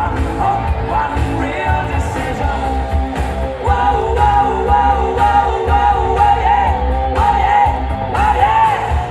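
Loud, continuous crowd cheering and applause for the full nine seconds for a race winner, the fastest man from Schwäbisch Hall, with yells and whoops rising over a steady wash of clapping, surging slightly louder about halfway through.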